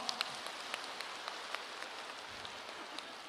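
Steady applause from a crowd, a dense patter of many hands clapping at an even level for a few seconds, with a few sharper individual claps standing out.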